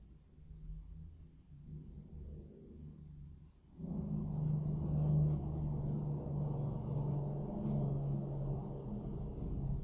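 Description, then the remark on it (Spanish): Low, rumbling traffic noise from cars passing by; the sound swells suddenly partway through and stays loud and steady as vehicles roll past, with no voices. “De autos que pasan.”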